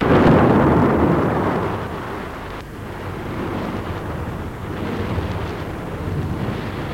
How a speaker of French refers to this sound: Le bruit de l'orage, les éclairs donnent l'impression que le lit se trouve au milieu de la mer.